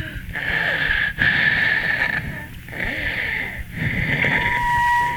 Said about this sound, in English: Bet you it's coronary. Bet you it's coronary. No, it's an asthma attack.